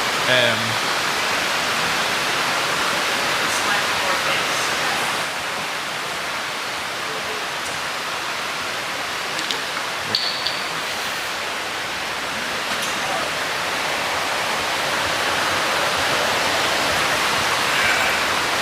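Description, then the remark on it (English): Heavy rain pours in a dense, unbroken hiss that holds steady in loudness for the whole stretch, with a few faint, brief ticks rising above the wash. “So people are just moving around in the room here so that we can sit a little bit closer, and then we hope the rain will cool off.”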